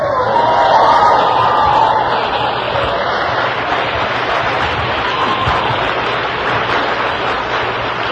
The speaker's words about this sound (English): I don't want too much applause. They've used up most of my time with all this sobriety crap.